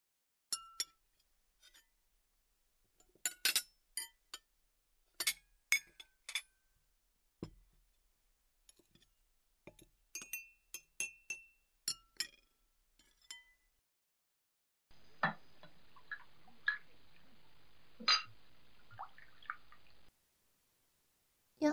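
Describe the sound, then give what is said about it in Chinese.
Dishes being washed: scattered sharp clinks of glass and dishware mixed with irregular water drips, then a steady stretch of running water with more clinks before it cuts off. No one speaks. “这是你第一次洗碗吧？”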